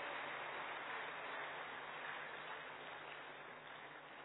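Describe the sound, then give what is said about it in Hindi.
Steady, dense applause from an audience welcoming Sheelu Behen, a senior Rajyoga trainer, onto the stage, many hands clapping continuously for several seconds and tapering slightly toward the end, with no voices standing out. “मैं बहन से निवेदन करती हूँ कि आप शीलू बहन का इस मंच पर स्वागत करेंगे फूलों से, और आप सभी तालियों से इनका स्वागत करेंगे।”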